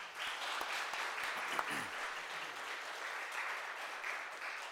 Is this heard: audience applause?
yes